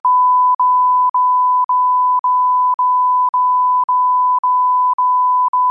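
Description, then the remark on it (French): A loud string of censorship bleeps: one steady, piercing tone chopped by tiny gaps nearly twice a second, running continuously for several seconds with no voices. “Et encore, si je me retenais pas, ça donnerait un truc avec plein de bips partout si je disais ce que je pense réellement de ces”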